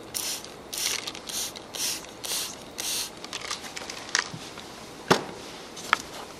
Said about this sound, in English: Now, as I mentioned before, I'm going to spray on you, okay, a special good spray, okay, uplift that energy vibration, okay?